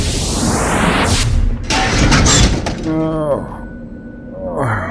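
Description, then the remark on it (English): A rising whoosh ends as a man drops out of nowhere onto a car: a loud, heavy body impact with crunching metal and shattering glass for about a second, followed by brief vocal sounds. “Guy dropping out of nowhere, right onto our car?”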